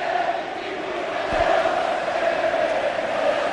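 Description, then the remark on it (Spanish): A large stadium crowd at a football match chants in unison, a dense, steady roar of many voices holding a sustained tone, with a brief low thump partway through and no single voice standing out. “¿Qué grita Millán el público?”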